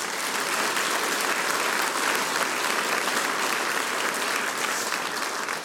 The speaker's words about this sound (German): Danke, das ist euer Applaus. Vielen herzlichen Dank.